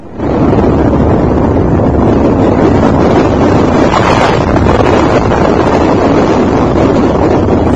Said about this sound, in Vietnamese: chiếc ghe đánh cá từ từ chạy vào cửa sông Đà Rằng.